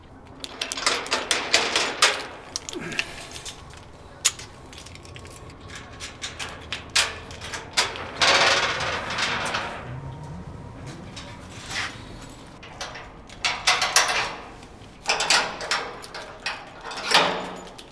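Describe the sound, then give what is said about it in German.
Loud metallic clattering as a metal grille door is unlocked and opened: bursts of jangling clicks and rattles, a scraping slide midway, then more clanks and knocks, with no talking. “Insofern können die Zuhörer jetzt mal hören, wie ich die Tür aufschließe.”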